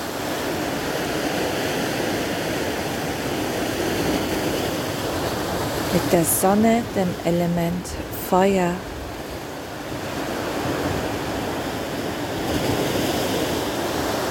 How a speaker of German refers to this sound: Lausche dem Meer, lausche den Wellen.